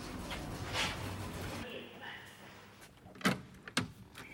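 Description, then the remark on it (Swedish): Elevator sliding doors rumble open at floor 6 with a steady whooshing glide, ending in two sharp clunks as they settle. A voice speaks briefly at the start. “Plan 6. Dörr öppna.”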